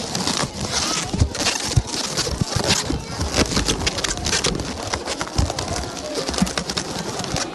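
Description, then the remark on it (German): Continuous rubbery squeaking and creaking as a long balloon is twisted and knotted into a mouse-shaped balloon animal at a festival, with sharp squeals and rubs in quick irregular bursts. “Hier bekommt man geknotete Luftballontiere.”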